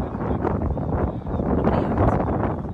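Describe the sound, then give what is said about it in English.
Steady, rumbling wind in Florida buffets a microphone outdoors, a dense low roar that holds at a fairly loud level for a few seconds with brief dips and gusts. “That Florida wind sometimes is cumbersome. Yeah, it's windy out there.”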